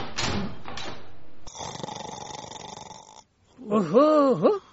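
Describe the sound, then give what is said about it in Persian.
Loud snoring from a person who has fallen asleep: a couple of rough, sputtering breaths, then a long raspy drone, a brief pause, and a wavering, whistling snort at the end. “ورقایش امضا کرده، ای خو رفته.”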